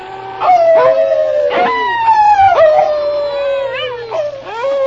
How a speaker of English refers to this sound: All right, King. Start howling like a wolf.